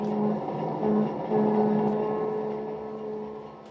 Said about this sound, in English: A sleek, long streamliner heads out of New York.